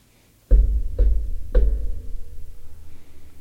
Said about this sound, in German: Und ihr klopft an die Tür des Schlosses.